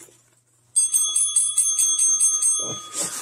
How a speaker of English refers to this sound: We have new sound effects on the Gizwiz. Yeah, that's the winner bell from Giz Fizz.